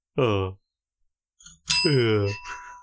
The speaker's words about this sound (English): That sounded like the sad bell again, Coleman. That was a celebration bell.